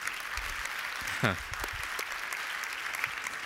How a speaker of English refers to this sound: So, I mean, hey, cut us some slack. Come on, we can clap for Christmas.